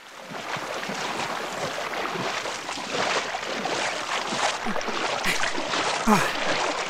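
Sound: boat moving on water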